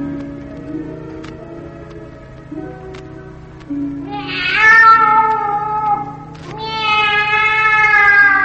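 cat meowing

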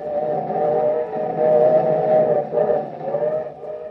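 noisy

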